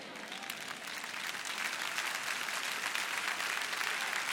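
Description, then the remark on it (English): A church audience applauds: a steady wash of many hands clapping for several seconds, moderately loud and even throughout, with no clear voices over it. “A mild smattering of applause pervaded the church.”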